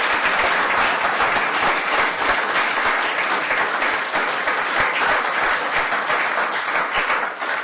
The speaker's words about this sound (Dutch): Gefeliciteerd. U mag klappen, dat mag wel.